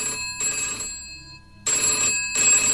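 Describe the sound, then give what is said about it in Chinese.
A telephone bell rings at night for a female police officer, in two loud bursts of metallic trilling separated by a brief pause, with no voices present. “电话又响了，今晚可真忙呀，女警员感叹一声，清了清嗓子又接起了电话。”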